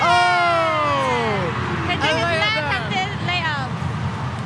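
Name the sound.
basketball crowd cheering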